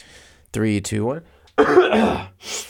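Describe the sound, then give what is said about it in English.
Throat clearing: a voiced, gravelly rumble, then a short pause and a harsh, breathy cough-like burst, both loud and with no talking. “Even if I, you know what's funny is, like, even if I don't have to cough, whenever I am about to do anything on a microphone, whenever I am about to, like, press record on this podcast, or whenever I'm about to, you know, make a video”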